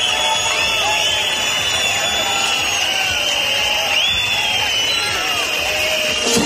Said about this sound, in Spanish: Y en ese entorno, el ministro ha tenido que escuchar una sonora pitada y gritos de fuera, fuera.